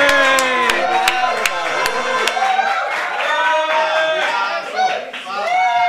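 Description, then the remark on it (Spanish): A crowd applauding the boss cheers and whoops loudly while sharp claps ring out in a steady rhythm at first, then the clapping fades and excited shouting voices carry on to the end. “¡Aplausos al jefe! Por favor, aplauda.”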